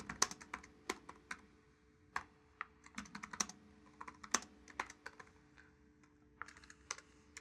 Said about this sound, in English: So as I'm typing queries, the editor is actually helping me with autocomplete.